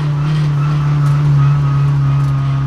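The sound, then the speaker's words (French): A Saxo rally car engine drones steadily, a constant low hum layered with broad road hiss as the car skids on a wet road, holding an even loudness throughout with no voices. “On arrive à mi-chemin, la Saxo dérape sur la route mouillée, plus que quelques minutes à tenir, les muscles se détendent, un sourire s'affiche sur mon visage, le bruit du moteur devient familier.”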